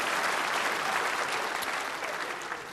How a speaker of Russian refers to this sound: Ваши аплодисменты считаю одобрением. У нас просто митинг начался.